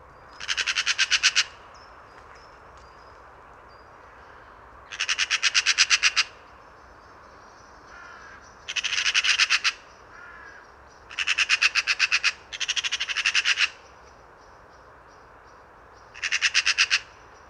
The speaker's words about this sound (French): On comprend bien pourquoi on dit de la pie qu'elle jacasse.